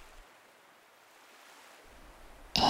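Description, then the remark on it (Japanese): Soft, steady ocean surf washes in a low continuous hiss, then a louder wave crashes near the end, bursting into bright foamy noise. No voices. “それに、この海の向こう側で誰かが同じ音を聞いてるんだろうなーって想像するのも楽しいし。”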